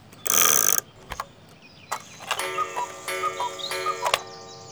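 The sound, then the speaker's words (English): A clock given as a birthday present ticks with a few sharp, irregular clicks, after a short loud buzzing burst at the start and alongside a bright, tinkling chime-like melody. No one speaks. “This clock is for you, Frosty.”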